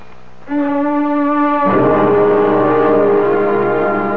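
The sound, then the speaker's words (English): An alarm goes off after a short moment of quiet, a loud, steady buzzing tone that shifts midway into a harsher, fuller blare and keeps sounding without a break. No one speaks. “I heard the alarm, Margaret.”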